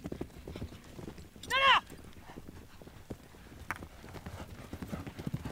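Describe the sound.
Polo horse hooves clip-clop in a steady, uneven rhythm at a polo match in Northwest Arkansas, with a short whinny-like call rising briefly near the start and faint voices murmuring in the background.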